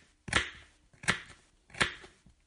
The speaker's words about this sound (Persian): خیارشورها را ریز خرد می کنیم و می ریزیم آن تو.